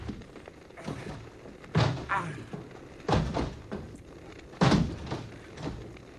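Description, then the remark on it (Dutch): A locked door is rattled and yanked several times without opening, with three heavy thuds at irregular intervals and faint scraping and knocking in between, fairly loud. “Probeer die deur dan nog eens.”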